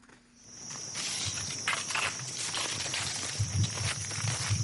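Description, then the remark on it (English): A dense, steady chorus of insects hums and buzzes on a high note, with scattered bird calls and soft low thumps underneath, in Bora village, Eastern Equatoria State, South Sudan, about 150 kilometers from Juba, without any talking. “As you enter Eastern Equatoria State's Bora village, about 150 kilometers from Juba, the sound of insects and birds can be as overpowering as the sweet fragrance of the ever-flowering plants that flourish as far as the eye can see.”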